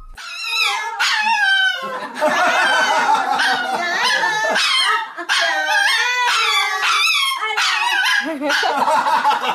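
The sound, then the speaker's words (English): A white dog named Ellen howls on command in a long, wavering "singing" run, its pitch sliding up and down with yips mixed in. The howls are loud and continuous, broken by a few brief pauses. “Everyone here is yelling, sing, Ellen, sing, sing.”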